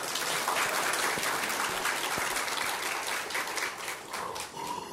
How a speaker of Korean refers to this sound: 아, 나 진짜 박수 한번 하고 싶은 일이 있었어. 그 팀판이 치시는 어른이 야 대한민국에서 제일 잘 치시는 것 같아 소리가. 한번 격려의 박수를 한번 주세요.